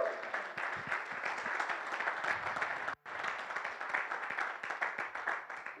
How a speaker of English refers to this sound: One person was about to clap. I interrupted you. Go ahead.